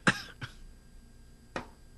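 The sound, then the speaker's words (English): A loud cough at the start with a short second burst right after, then a quieter cough about a second later, heard alone with no talking. “I forgot to hit my cough button, as so many others have done so on this station.”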